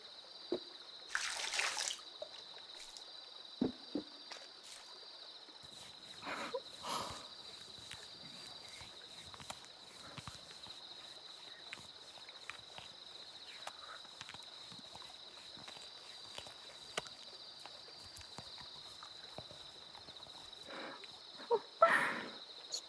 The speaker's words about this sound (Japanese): ふわふわになっていく泡の音。振り返らないでくださいね、ご主人様。 今、私はご主人様の耳元で石鹸を泡立てていますから。振り返ると、 泡が目に入ってしまいますよ。